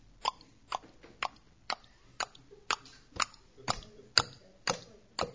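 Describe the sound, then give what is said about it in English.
A voice imitates a noisy pair of flip-flops slapping as someone walks across a campsite at 3 a.m.: about eleven sharp smacks in a steady, unhurried stepping rhythm, with no talking in between. “Across the campsite with the noisiest pair of flip-flops going.”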